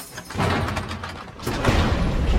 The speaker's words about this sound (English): The execution party waits outside the condemned cell. The governor gives the nod to a warder who unlocks the cell door.